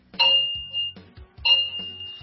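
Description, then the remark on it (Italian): A clock chimes 9:30, striking twice about a second apart, each stroke a bright, ringing metallic tone over a low resonant hum that lingers before fading. No voices. “L'orologio suona le 9:30.”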